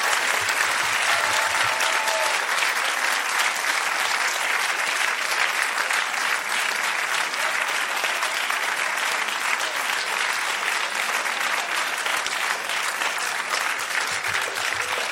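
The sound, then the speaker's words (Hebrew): Sustained applause from a large audience in a packed hall for former Knesset member Gadi Avrakan, a dense, steady patter of many hands clapping for the full stretch, fairly loud, with no break or fade. “אז גדי אברקן, תעשו לו הרבה, הרבה הרבה כפיים.”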